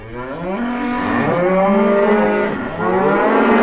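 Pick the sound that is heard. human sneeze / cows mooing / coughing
cows mooing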